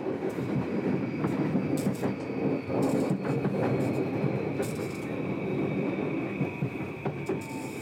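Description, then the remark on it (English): A Tokyo Metro subway train rumbles steadily at a crowded platform, with rhythmic clacking of wheels over rail joints and a faint high whine running through the whole stretch. No voices stand out. “The next train comes in just a couple minutes. More crowds arrive.”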